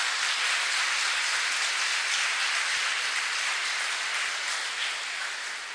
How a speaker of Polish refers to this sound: To są też brawa, wiecie co, zaskoczę was, ale dla siostry Maksymiliany, bo ja nie ogarniam tego, czym jest kobieca intuicja.